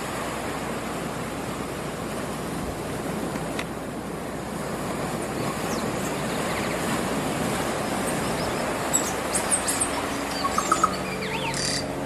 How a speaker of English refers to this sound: This is the current soundscape of Great Barrier Island from Medlands Beach.